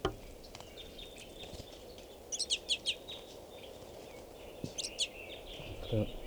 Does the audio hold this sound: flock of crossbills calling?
yes